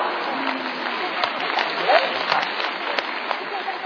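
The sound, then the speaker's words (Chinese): An audience at a Chinese crosstalk (xiangsheng) comedy performance applauds steadily, a dense wash of many hands clapping at an even, moderate loudness for about four seconds, with a few sharper claps standing out. “您还真厚道，还鼓掌是吗？”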